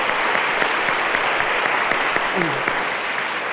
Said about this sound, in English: Well, let's give them a round of applause and welcome them officially into the fellowship.